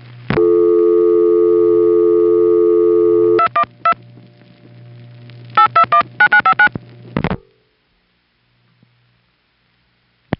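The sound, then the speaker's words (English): A steady telephone dial tone on a crossbar 5 switching system hums for about three seconds, then cuts off as a quick series of dialing pulses and clicks follows, ending abruptly into near silence. “Once we get dial tone and while we're dialing, we're connected to something called the originating register.”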